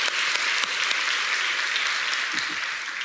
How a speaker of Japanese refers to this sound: 神様のお恵みがこのタイ・バンコクのグループにも、豊かにありますように。いつも9人で礼拝していらっしゃるそうでありますよ。みんなで拍手を持って応援したいと思います。